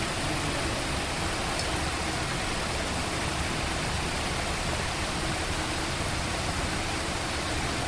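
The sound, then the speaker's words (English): Water from a stream flows in a steady, unbroken rush, a dense even hiss with no pauses or individual splashes, holding at the same level throughout with no voices. “That's, this is being repumped, this water, or it's actually coming from a stream? It comes from a stream, but it's soaking in the stream.”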